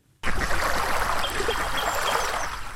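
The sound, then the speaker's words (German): Steady babbling of the Havel river in Kladow, Spandau, on the western edge of Berlin, a continuous wash of small splashes and trickles that starts abruptly and runs evenly throughout, with no voices. “Die Havel plätschert, Enten schnattern.”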